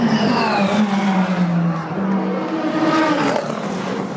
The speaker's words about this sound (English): By rule, a car in the experimental class can't win, but the Camaro ZL1, with its V8 caterwaul, drove the crowd wild, and the car actually finished all 24 hours of Le Mans, which was all the team was going for.